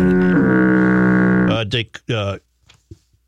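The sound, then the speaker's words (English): A single loud, low foghorn blast holds steady for about a second and a half, then cuts off, followed by a few short bursts of voice. “You got to get foghorn for that.”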